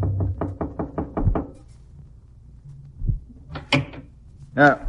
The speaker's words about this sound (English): She tied it into a knot over a walking cane and came down and knocked on the door of her employer's room.